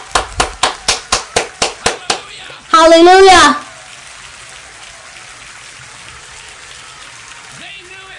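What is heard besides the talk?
audience applause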